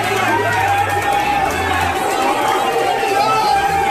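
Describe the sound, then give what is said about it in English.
A big crowd celebrating in New York, a dense, steady roar of many voices chattering and calling out at once, loud throughout with no single voice standing clear. “But this happened in New York, and I want to know: can you guess what these people are celebrating? Big crowds.”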